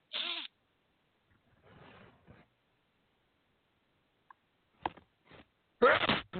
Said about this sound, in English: Sorry for that pause. I just had to sneeze.